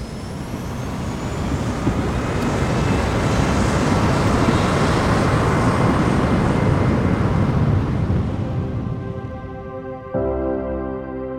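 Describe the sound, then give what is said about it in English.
A loud, steady engine roar fills the whole stretch, like a jet powering down a runway as an airplane takes off, with a thinner whining hum emerging as the rumble eases near the end. “Flight attendants, please prepare for takeoff.”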